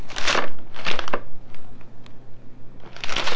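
Bursts of crinkly, rustling wrapping paper being ripped and crumpled off a present, three main noisy flurries with short scratchy tears in between, fairly loud over a low steady hum.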